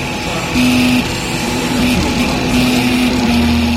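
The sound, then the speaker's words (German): A coffee-machine-sized 3D printer in a lab in Wrocław layering dark blue plastic with micrometre precision into a Star Wars logo: a steady mechanical hum with low, whining motor tones that shift and hold at different pitches in short segments, running without pause and with no voices. “Mikrometergenau schichtet das kaffeemaschinengroße Gerät Lage um Lage dunkelblauen Kunststoff übereinander.”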